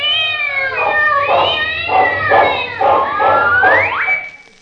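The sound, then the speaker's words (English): A cat yowls and caterwauls in a long, wavering series of loud, drawn-out meows, rising and falling in pitch over a low hum, ending in a sharp upward cry. “Yeah, but what if he sees a strange cat?”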